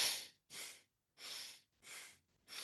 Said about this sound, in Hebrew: ומתחיל לנשום נשימות מחוברות דרך האף, כאלה.